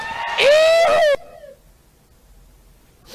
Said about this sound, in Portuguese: E esse gritinho, hein? E esse gritinho?